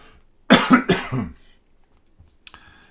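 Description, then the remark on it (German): A loud, raspy throat clearing in three quick, harsh bursts that run together, then it trails off into near silence with a faint click at the end. “Ich muss mich einmal räuspern, Entschuldigung.”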